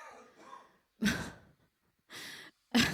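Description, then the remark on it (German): A man coughs three times after choking, in harsh, abrupt bursts separated by brief pauses, fairly loud, after a quieter stretch of strained, raspy breathing. No one talks. “Jetzt atmet er nicht mehr. Ah, doch, er hustet noch ein bisschen.”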